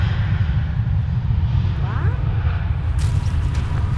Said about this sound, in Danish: Flyene, de letter hele tiden her.